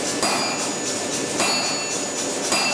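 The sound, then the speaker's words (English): A blacksmith hammers hot steel on an anvil at a steady pace: students in a blacksmithing class hammering out items for the Sims Fine Craft Auction. Each loud blow leaves a bright metallic ring hanging over a constant background clatter. “The students in the blacksmithing class are busy hammering out items for the Sims Fine Craft Auction that takes place October 27th at 17th Street in Murfreesboro.”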